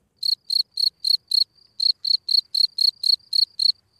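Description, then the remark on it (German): A male field cricket sits in front of its burrow and chirps steadily to attract a female, a rapid series of evenly spaced, high-pitched trilled pulses with a brief pause midway, then continuing in the same regular rhythm. No voices. “Sobald Männchen genug Spermien gebildet haben, hocken sie vor die Höhle und fangen an zu grillen.”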